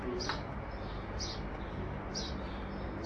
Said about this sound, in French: Et en tant que Dieu de la création, bah, il a créé aussi les animaux, comme les oiseaux là, qui nous accompagnent aujourd'hui.